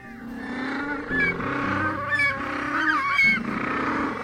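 Loud, harsh braying calls from several penguins overlap in a continuous, honking chorus, rising and falling in pitch like donkeys, with no talking.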